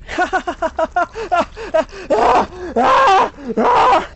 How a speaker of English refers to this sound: You hear my excited laughter blend from glee to horrific screaming.